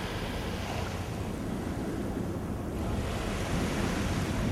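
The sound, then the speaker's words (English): Ocean waves wash steadily onto the shore in a continuous, even surf, with a soft breeze mixed in and no voices present. “Listen to the waves gently, repeatedly lapping in the shore.”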